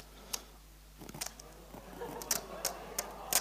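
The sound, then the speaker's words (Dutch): Quiet crackling and sharp ticking snaps of duct tape being pulled and pressed down, with a short rasping stretch midway and several crisp clicks toward the end. “Ja, dat is duct tape. Hij kan er ook weer af.”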